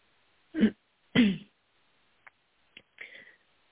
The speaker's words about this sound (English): Sorry, I'm trying to hold in a cough, and I'm like, I can't mute fast enough. I don't want to cough. I'm going to cough. I don't want to cough in everybody's ear.